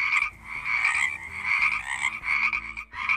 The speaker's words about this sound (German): Und das Quaken hier, das ist jetzt richtig laut. Da muss ja irgendwo ein Frosch sein.